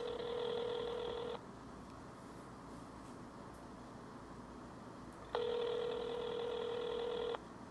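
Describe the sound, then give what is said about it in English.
An outgoing phone call's ringback tone, played over a mobile phone's speaker while calling someone's father, sounds twice. Each steady electronic buzz lasts about two seconds, with a long silent gap between. It is moderately loud over faint background hiss, with no talking. “We're ringing.”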